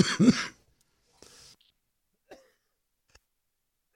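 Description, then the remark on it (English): One loud, harsh cough, followed by a softer breathy rasp and a few faint clicks in otherwise quiet surroundings. “Sorry, coughing.”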